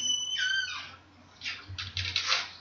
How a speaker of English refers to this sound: That was a horrible creaky noise. That was my door. Yeah. That was creepy.